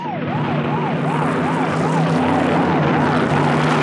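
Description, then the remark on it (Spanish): Police car sirens wail in a fast, repeating up-and-down yelp, loud and steady over a low engine rumble, as police cars approach in a chase, with no one talking. “Los autos policíacos se van aproximando.”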